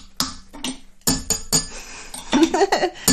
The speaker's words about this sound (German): Wir müssen die Kaffeetassen aneinander knallen.